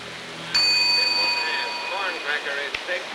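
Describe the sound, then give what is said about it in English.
A hotel reception desk service bell is struck once by an arriving bus passenger, its bright metallic ding ringing on and slowly fading while faint voices murmur in the background. “He watches the bus passenger drop his suitcase, ring the reception desk bell, and fan himself with his hat.”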